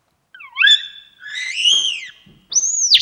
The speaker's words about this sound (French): on a des thèmes sifflés aussi, vous voyez, c'est des sons très purs, qui caractérisent chaque individu dans la colonie.